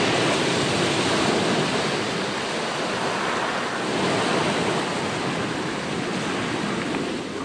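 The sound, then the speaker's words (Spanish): Loud, continuous roar of ocean surf breaking close by against rocks on a beachless stretch of Madeira's coast, seen from a lookout platform, a dense wash of churning water with no pauses and no voices. “Como también son muy visitadas durante el invierno, por tratarse de unas privilegiadas plataformas adelantadas que permiten observar muy de cerca la fuerza de las olas rompiendo contra las rocas.”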